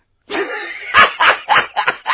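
A puppy lets out a short whine, then a quick run of about five high, sharp yips in a steady rhythm, fairly loud.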